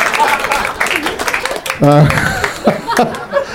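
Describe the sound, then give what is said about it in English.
A burst of audience applause with scattered clapping and some chuckling laughter, a brief vocal cry rising over it midway, all steady throughout. “I don't know why they got a round of applause.”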